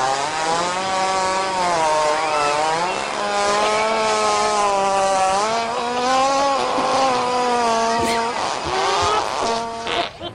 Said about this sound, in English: We would love to celebrate it with the longest fart that you are legally allowed to play.